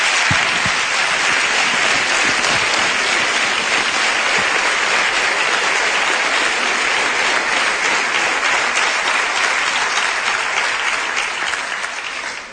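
Sustained audience applause for David de Miranda, a dense steady wash of many hands clapping at an even, loud level for about twelve seconds before tapering slightly at the end, with no voices standing out.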